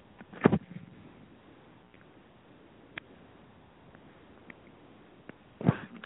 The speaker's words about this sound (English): Hold on a second. Got something caught in the throat. Got a cough. Hold on.